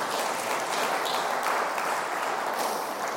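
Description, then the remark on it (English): A crowd applauds steadily, a dense wash of many hands clapping at an even, fairly loud level for about three seconds with no voices standing out; the applause is for audience members over 80 years old. “Give them a round of applause for being so old.”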